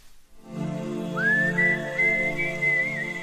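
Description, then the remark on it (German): A clear, melodic whistle slides up into a slow tune of held notes, sitting prominently over a soft, sustained rock-band backing, with no singing or talking; the whistled intro of the biggest hit song of 1991, released on 6 November 1990. “Wir fangen mit der schönsten Pfeiferei des Jahres 1991 an.”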